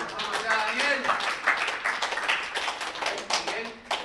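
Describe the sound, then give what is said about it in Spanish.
A crowd claps steadily throughout for the two speakers, a dense patter of many hands at moderate loudness, with some voices mixed in underneath the applause. “Un aplauso para los dos oradores, por favor.”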